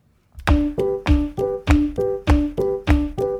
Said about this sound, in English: Okay, so stomp your feet like this.